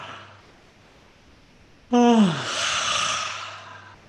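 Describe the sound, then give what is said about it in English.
A single yawn breaks a quiet pause, starting with a brief voiced groan that slides downward, then trailing into a long, airy, breathy exhale that fades out, done as the opening phase of an exercise after clenching the teeth. “And then the opening phase is to yawn.”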